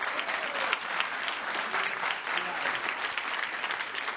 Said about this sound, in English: What? That's all the applause I get?